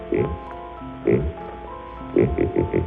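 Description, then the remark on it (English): A buzzy, synthetic voice from Dudley's vocoder imitates a pig's oinks, a novelty animal noise as made for crowds at the 1939 World's Fair: a single grunt, another about a second later, then a quick run of three or four short snorting oinks, with steady electronic tones humming underneath. “It started its public life as a silly novelty gag, making animal noises for crowds at the 1939 World's Fair. And here's a pig.”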